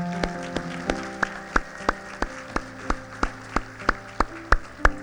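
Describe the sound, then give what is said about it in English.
A church audience claps hands together in a steady, even beat, about three sharp claps per second, over sustained musical tones underneath, clapping to thank Jesus for hearing their prayer. “Would you clap your hands and thank him that he heard your prayer?”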